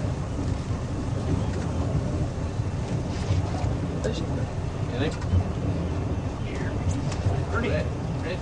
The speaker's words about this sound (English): Now that wake off of that boat will really shake us around.